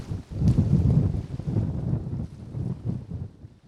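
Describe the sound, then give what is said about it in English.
Strong wind roars and buffets in a steady low rumble with uneven gusts, with a faint wash of water beneath it on the open Mississippi River during a canoe trip, with waves by a cut bank. No one speaks. “Big wind.”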